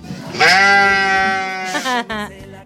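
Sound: sheep bleating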